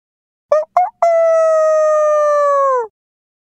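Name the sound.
rooster crowing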